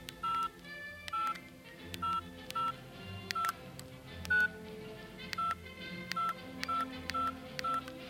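A rapid series of mobile phone keypad dialing tones, about a dozen short beeps in uneven rhythm, clear, with no one speaking, as someone dials an urgent phone call on a mobile phone.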